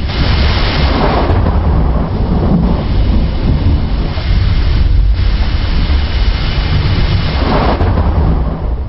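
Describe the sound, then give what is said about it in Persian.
Loud, continuous rolling thunder rumbles without pause for about nine seconds, deep and heavy with a hissing, rain-like texture on top. No voices are heard. “افغانها نیز تصورات و خیالات در مورد رد و برق دارند.”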